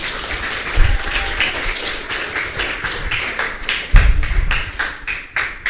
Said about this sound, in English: Give them a clap, everyone. Thank you.